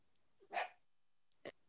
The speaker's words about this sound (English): These damn dogs.